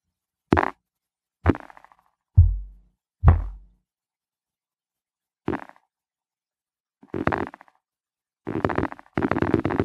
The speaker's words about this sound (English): And as you can see with this model, it's like a percussive model, and it's intended to play snare rolls with one or more fingers. drum rolls.